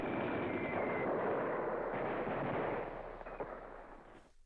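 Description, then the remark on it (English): A German artillery bombardment of explosive and gas shells levelling enemy positions rolls on as a dense, continuous roar of overlapping booms and crackles, holding steady before tapering off near the end. No voices are heard. “For 5 hours, German artillery relentlessly leveled enemy positions with explosive and gas shells.”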